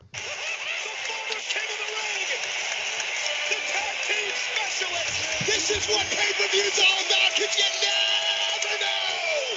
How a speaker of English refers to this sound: The crowd is wild for Booker T right now, man. Wild. They're all cheering. They're all out of their seats.